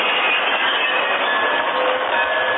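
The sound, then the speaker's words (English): A loud, continuous rush of a train of cars rolling over the tracks, a steady grinding roar with faint metallic squeals running through it, no voices; the Lone Ranger is moving the cars into position across the main road into Stockton. “Great Horse Silver followed alongside the engine as the train of cars rolled over the tracks.”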